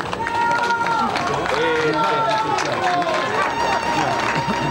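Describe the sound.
A large crowd in L'Aquila, Italy, claps and cheers steadily as the Italian Prime Minister arrives at newly delivered homes, with scattered shouts and overlapping voices rising above a dense, continuous wall of noise that stays loud throughout.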